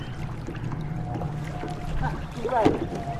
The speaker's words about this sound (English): Now, I want you to have a go at wobbling the boat now. See if you can do a circle with your hands and then an other way around circle.